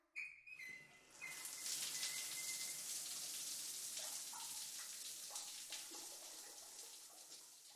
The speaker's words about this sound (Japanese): それでは、シャワーを浴び直して、今度こそ、 お出かけしましょう。